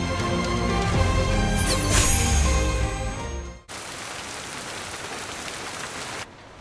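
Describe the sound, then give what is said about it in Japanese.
Steady rain pours down in a dense, even hiss, taking over after a tonal, music-like passage and continuing without a break, moderately loud, with no voices. “君が初めてうちに来た日もこんな雨の日だったな。”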